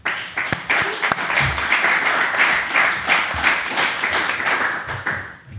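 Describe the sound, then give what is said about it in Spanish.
An audience breaks into sustained applause, a dense wash of many hands clapping at a steady loud level for about five seconds before quickly fading out. “Un aplauso.”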